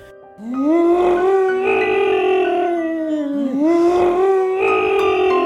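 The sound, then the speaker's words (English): Two men, a motorman and a conductor, howl at the moon in long, wavering, drawn-out cries that slide up and down in pitch, loud, with a brief dip and a fresh swell partway through. “Suddenly, the motorman raised his face and howled at the moon, and in kind so did the conductor.”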